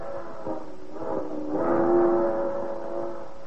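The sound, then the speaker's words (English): A night freight train's whistle, from locomotive number 7941 hauling grimy boxcars with a caboose, blows a sustained, chord-like tone that swells louder around the middle and holds steady before easing slightly, over a low rumbling background. “That's the whistle of a night freight, hauling a miscellaneous load of grimy boxcars, with a caboose rattling along at the end of the parade.”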